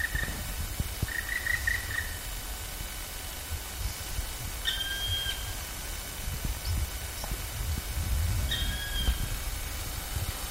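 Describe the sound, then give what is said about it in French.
A woodpecker gives a short, high call while flying, then two sharp alarm calls a few seconds apart, each clear above a steady low rumble. “Puis les deux suivants, c'était plutôt des cris d'alarme pour justement nous, je pense.”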